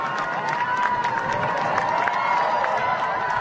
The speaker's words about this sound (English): You're listening to the gasps and cries of amazement from witnesses to a total solar eclipse in Australia just a few weeks ago on November 13th, 2012.